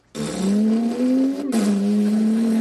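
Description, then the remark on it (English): Someone makes a motorboat engine noise with their voice while playing with boats: a steady, buzzing drone that climbs slightly in pitch, briefly breaks for a breath, then continues loud. “Here's a motorboat.”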